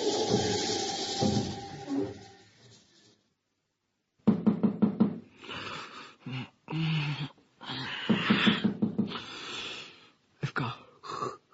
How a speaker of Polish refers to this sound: Ktoś puka.